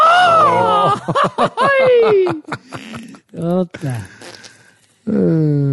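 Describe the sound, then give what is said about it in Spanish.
Someone attempts a mariachi grito, a loud run of warbling yells with sliding pitch that breaks into choppy, laugh-like bursts before ending on one more sustained cry. “No me sale el grito de mariachi, me da coraje.”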